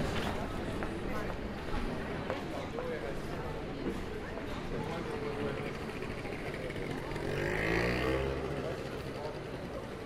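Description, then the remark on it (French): Busy street traffic with cars rumbling steadily and a constant wash of road noise; one vehicle swells louder as it passes near the end, with indistinct voices murmuring underneath. “Avec l'œil défiant du lézard, elle empêche les voitures de passer.”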